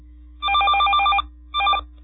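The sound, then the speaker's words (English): A telephone rings for an incoming listener call to the live radio show Rand Radio: a sustained trilling burst of bright, warbling electronic tones, a short pause, then a briefer second ring, over a steady low hum. “There we go. We got someone calling in.”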